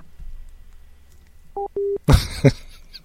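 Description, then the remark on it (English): A phone line tone after a woman hangs up on a call: two short, steady electronic beeps, the second slightly longer, followed by a couple of loud handset clunks. No one speaks. “Is that a no or a yes? She hung up.”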